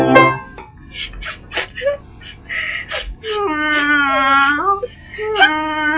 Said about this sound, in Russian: А ты почему плачешь? Я домой хочу.